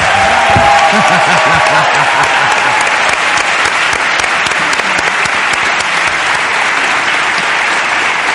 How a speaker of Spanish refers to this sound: Sí, un aplauso.